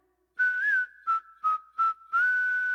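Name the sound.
whistling a tune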